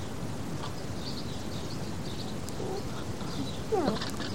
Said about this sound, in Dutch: Nee, duiven!